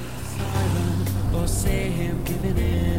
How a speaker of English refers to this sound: Connie starts up the car and they pull away.